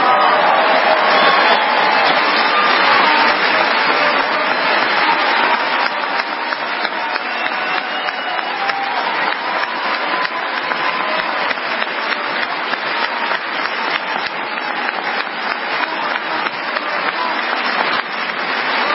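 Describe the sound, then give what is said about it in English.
A crowd applauds steadily for about twenty seconds, cheering a speaker's remarks about his wife. The clapping is dense and loud throughout, with occasional cheers rising through the noise before it tapers slightly. “We'll have to get by a little bit of applause here.”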